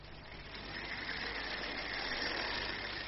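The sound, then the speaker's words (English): A model train pulling eight carriages runs steadily along its track, giving a continuous whirring hum with a low rumble underneath and a faint higher whine, swelling slightly after the start and then holding even. “Ach, I'll have another wee shot at these trains first.”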